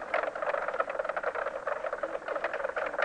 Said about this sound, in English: But mink frogs, which can be heard in northern Wisconsin, are already near the southern extent of their range.